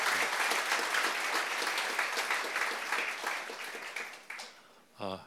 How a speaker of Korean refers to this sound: 우리 엔서처 공동체 한번 우리 힘찬 격려의 박수 부탁합니다.